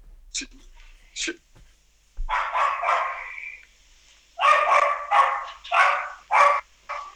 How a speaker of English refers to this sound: The dog's here. Yeah, the dog's upstairs. Sorry about that.